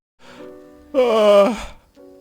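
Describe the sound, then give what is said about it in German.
A woman gives a single drawn-out voiced yawn just after a show has begun: a soft breathy start swells into a loud, tonal middle, then the pitch sags and it trails off, with a brief faint murmur after. “Die Sendung hat doch eben erst begonnen und Sie gähnen jetzt schon.”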